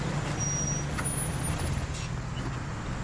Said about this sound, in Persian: دو تا ماشین نگه میدارم.